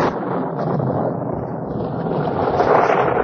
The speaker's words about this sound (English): Uh-oh, here she comes. I'll close that window, honey. Goodness, it's a cloudburst.